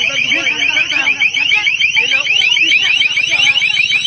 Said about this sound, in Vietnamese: Vừa rồi là tiếng một người dân đồng tâm nói trong tiếng hú rợn người khi cảnh sát cơ động dùng thiết bị phát sóng âm thanh cực lớn. Khi người dân tập trung ở khu vực ở cổng trường bắn Miếu Môn hôm 5 tháng 1 năm 2020.